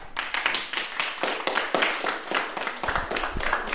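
An audience applauds steadily for a few seconds, a dense crackle of many hands clapping at once with sharper individual claps popping out, and no voices.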